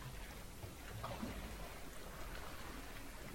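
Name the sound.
ocean waves rushing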